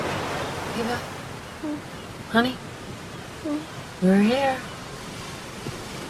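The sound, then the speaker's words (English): A steady, rushing wash of rolling surf on a beach rolls on continuously, with a few brief, high, wavering calls breaking through over the noise. “pulls to a halt on the beach above the rolling surf.”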